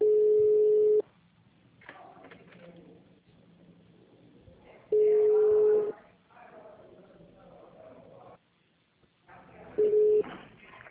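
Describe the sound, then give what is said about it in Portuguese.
Three steady, single-pitched telephone tones ring out loudly at spaced intervals, with quiet line hiss and faint background murmur in the gaps between them, as a phone call is transferred to the human resources department. “Só um minuto, eu vou transferir para o recurso humano.”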